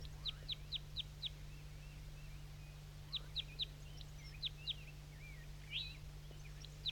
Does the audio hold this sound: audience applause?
no